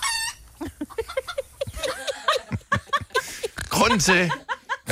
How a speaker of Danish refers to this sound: Der kom den. Hønsene. Der var en, der lagde et æg der, tror jeg.